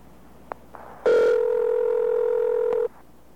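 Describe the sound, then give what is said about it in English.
A recorded fake telephone ring tone, played before the real phone had begun to ring: one steady, buzzy electronic tone lasting nearly two seconds, starting and stopping abruptly, with faint clicks and audible edits just before and near its end. No one speaks. “What they are doing is playing a recording of a ring and trying to convince you that the phone is actually ringing.”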